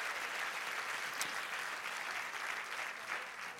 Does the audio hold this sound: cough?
no